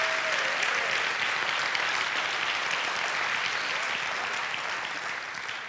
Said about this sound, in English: If you believe that, give the Lord a hand clap of praise for 30 seconds.